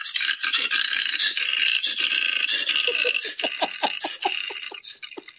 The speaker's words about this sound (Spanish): Pero yo soy muy fan del koala, ¿no? De ese marsupial simpaticote. Pero he descubierto la voz que tiene el koala. Y atención, escucha cómo suena un koala.